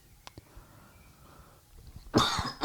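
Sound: coughing into the microphone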